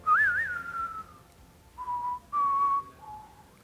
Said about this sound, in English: So what comes to mind, see if I can whistle up here, what comes to mind when I whistle this, right?